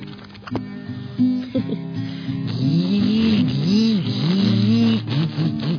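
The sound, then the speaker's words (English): A person imitates a blender with a steady, buzzing voiced drone, its pitch rising and dipping in repeated wavering swoops for several seconds at a moderate, even loudness. “Doesn't that sound like a blender?”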